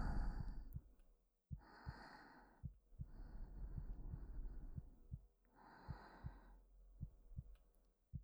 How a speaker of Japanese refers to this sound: 私の心音、どうですか？とくん、とくんって、先輩を思う気持ちが溢れるように、心臓の鼓動が高鳴ってる。